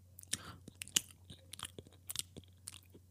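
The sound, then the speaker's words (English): Someone chews crunchy food, with a quick, irregular run of sharp, crackly bites and munches over a steady low hum. No one speaks. “Can you hear that? That's me eating crow.”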